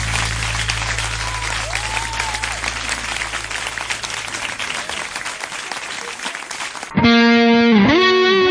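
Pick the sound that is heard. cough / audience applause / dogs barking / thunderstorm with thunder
audience applause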